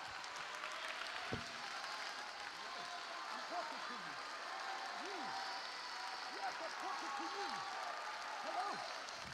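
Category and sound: crowd, audience clapping hands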